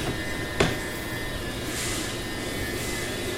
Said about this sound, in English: Can't find the door. I'm gonna get on this train.